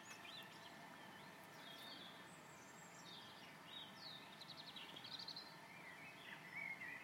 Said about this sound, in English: I'm just going to take you around the side to see if you can hear the blackbirds.